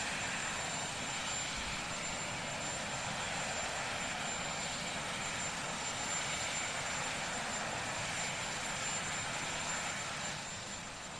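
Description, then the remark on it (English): An aeroplane engine idles with a steady, continuous roar and hiss as Barack and Michelle Obama board it, leaving Washington, holding constant throughout and easing slightly near the end. No voices are heard. “As they get on the aeroplane here.”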